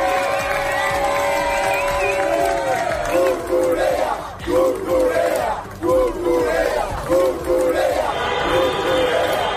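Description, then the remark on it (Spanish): A large crowd of fans celebrating Spain's victory chants loudly in unison, shouting Cucurella, voices rising into a repeated rhythmic cheer with steady beats about once a second, over a constant roar of celebrating people. “Momentos como este, baños con pelucas de rizos en las fuentes al grito de Cucurella y coches que van a la frontera con Gibraltar a tocar el claxon.”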